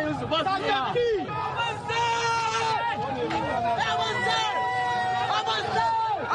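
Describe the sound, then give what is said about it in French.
A dense protest crowd of many overlapping voices, shouting and chattering at a steady loud level, with rising and falling calls cutting through the constant babble of marchers protesting a finance bill as they head toward the Place de la Concertation opposite the Parliament. “Les organisateurs sont débordés et la foule décide de marcher.”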